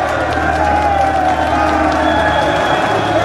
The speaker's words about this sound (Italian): Mussolini apre la porta della redazione. La folla di arditi e fascisti esulta.